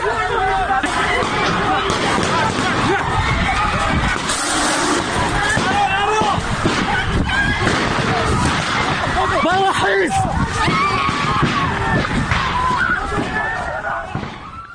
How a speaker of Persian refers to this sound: اما ماموران امنیتی به تجمع دانشجویان علوم پزشکی کردستان حمله کردند. همینطور گاز اشک‌آور به سوی اونا شلیک کردند، تیراندازی هم کردند. بشنویم صدا رو. حمله نیروهای یگان ویژه به داخل دانشگاه علوم پزشکی کردستان 7 آبان ماه.